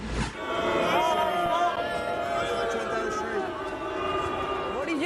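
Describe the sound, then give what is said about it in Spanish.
A crowd boos Boris continuously, many voices blending into a steady, droning jeer that holds at an even, fairly loud level for the whole stretch, with a few voices rising and falling above the mass. “Los abucheos son para usted, Boris.”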